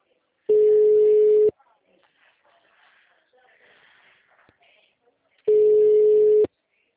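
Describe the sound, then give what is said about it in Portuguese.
A telephone ringback tone from an unanswered call: two loud, steady one-second beeps at a single mid pitch, separated by a long pause filled with faint murmuring. “Nossa, eles não atendem esse telefone.”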